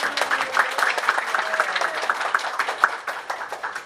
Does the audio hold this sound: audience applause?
yes